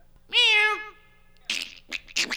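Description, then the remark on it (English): A voice imitates a cat's meow: one drawn-out, fairly loud mew that bends up and down in pitch, followed after a pause by a few short, breathy, hissing bursts. “Meow. And bird and weird shit, fart sounds.”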